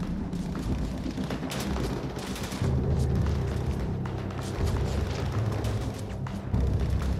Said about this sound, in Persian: برین عقب. ناگهان آتش و انفجار به راه افتاد. دشمن می‌خواست اون تانکو از بین ببره.